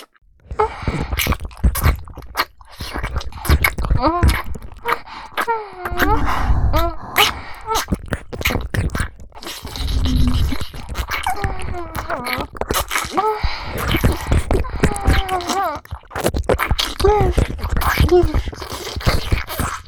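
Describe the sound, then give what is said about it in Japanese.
Continuous wet ASMR ear-licking and mouth noises, dense smacking clicks and slurps, mixed with soft breathy moans and hums rising and falling throughout. No clear words are spoken. “そんないい子には っぱいいっぱい、お耳にレロレロしてあげまちゃ。”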